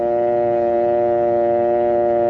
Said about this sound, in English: Then remove the receiver and listen for the dial tone. It sounds like this.